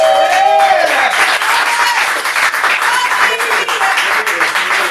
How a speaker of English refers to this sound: Give your hands a round of applause for this next comic coming up.